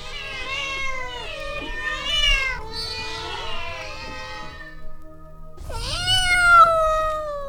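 Several kittens meow over one another in a steady stream of high, wavering cries, then a short pause before another loud, drawn-out mewing burst.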